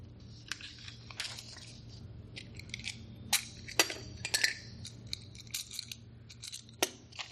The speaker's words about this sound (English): I'm going to do some hammering